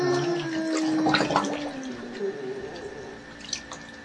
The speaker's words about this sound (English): I have to put new water in.